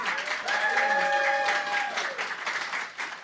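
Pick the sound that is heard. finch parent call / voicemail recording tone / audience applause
audience applause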